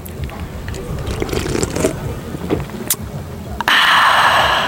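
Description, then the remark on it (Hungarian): Wet sips and slurps of cold beer for an ASMR recording, with small clicks and a sharp smack, then a loud, steady fizzing hiss takes over for the final second. “A mai ASMR adásunkban nem mást fogunk csinálni, mint sört fogunk kortyolni az F-otnak, az O betűjében.”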